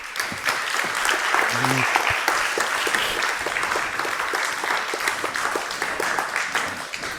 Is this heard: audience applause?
yes